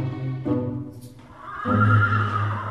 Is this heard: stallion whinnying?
yes